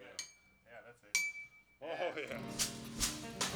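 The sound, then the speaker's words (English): A Wisconsin-made stump fiddle with a big bell being played: a few bright metallic clinks and bell-like rings struck at irregular intervals, one with a sustained ringing tone, over a dense bed of voices and music. “That would be a Wisconsin-made instrument right there. That's called a stump fiddle.”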